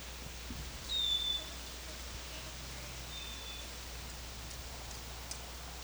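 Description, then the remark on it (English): A female wild bird gives a brief, thin high-pitched whistle early on, then a fainter call follows later, both soft against a steady background hiss with no talking. “Wildbird in the background. Wildbird. This is a female.”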